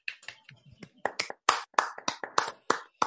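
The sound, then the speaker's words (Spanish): Brief applause of sharp, distinct hand claps, about a dozen in an uneven but steady rhythm over three seconds, sounding like just one or two people clapping rather than a full crowd. “Un aplauso.”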